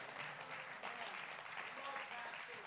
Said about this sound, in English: One more time, would you clap your hands and say amen.